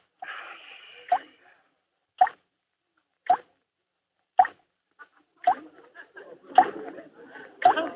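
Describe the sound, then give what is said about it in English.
Water drips from a shower in a steady, slow rhythm, about seven distinct plops roughly a second apart, clear, with faint murmuring noise at the start and end. “The shower is dripping.”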